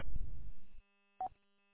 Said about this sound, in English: you copy that about getting into programming and finding out figuring out how to shut off the courtesy phone in that radio? Talk about the Roger beep, right? I didn't know it was on.